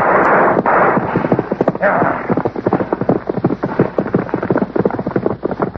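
Galloping horse hooves pound in a fast, steady rhythm, loud, with a rushing noise underneath during the first couple of seconds.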